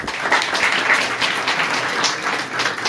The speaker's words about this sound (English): So big yashikov to all of you. Now you can clap for yourselves.